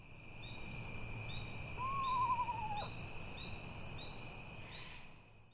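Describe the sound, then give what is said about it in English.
A small screech owl gives a single clear, whistled call that slides downward in pitch, heard against a steady background of buzzing night insects. “These small owls nest in holes in trees.”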